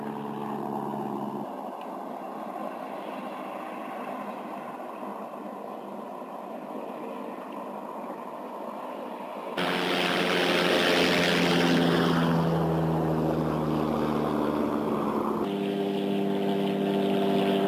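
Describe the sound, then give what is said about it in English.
A loud engine drones steadily, a propeller-like hum that suddenly swells louder and rougher midway with shifting tones, then eases back slightly toward the end, from a flying object with blinking lights in the border area of Laredo. No one speaks. “But I want you to see this, that it has blinking lights, okay, and combustion and propulsion sound. They are loud.”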